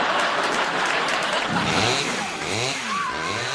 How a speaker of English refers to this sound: Hey, he's going after those guys with a Benford 5100 chainsaw. That's a chainsaw and a half.